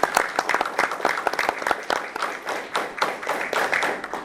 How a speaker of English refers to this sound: We are very proud to have top students that go down to Orlando and represent Liberty County, and you couldn't find a better group of students doing this. So give him, along with others, a round of applause.